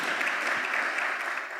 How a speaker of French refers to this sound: Est-ce qu'on peut applaudir le Seigneur? Bravo, bravo.